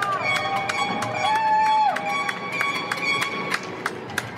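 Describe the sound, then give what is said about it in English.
Neighbourhood applause and cheering for medical workers in Inwood, Manhattan: scattered sharp claps and bangs ring out over a steady crowd din, with horns, long sustained whistle-like tones and one rising then falling pitch sweeping through. “The applause, the cheering, is to show we care.”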